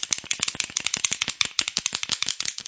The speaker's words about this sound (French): Ils entendent un petit bruit, un clac-clac inquiétant qui claque comme un claquement de dents.